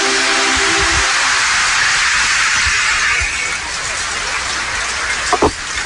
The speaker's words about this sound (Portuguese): Mostra para que você veio, pode dar um beijo nela. Uma salva de palmas.